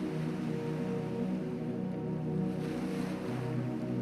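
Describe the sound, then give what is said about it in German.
Continuous sea surf as the tide recedes around Mont Saint-Michel in France, a broad rushing wash with low rumbling swell and some wind noise, no voices present. “Auch jetzt schon geht das Meer wieder zurück.”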